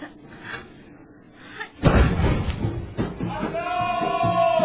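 A mortar shell, dropped at an angle into the tube, fires with one heavy, deep thump, followed by a crowd's loud clamor and raised voices that carry on to the end.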